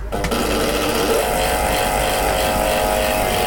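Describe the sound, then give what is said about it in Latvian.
A small electric motor hums steadily throughout, a homemade electric spinning wheel running with a constant whirring drone and faint mechanical rattle, fairly loud, with no one speaking. “Slīpmašīnai kompāniju sastāda arī elektrisks vērpjamais ratiņš”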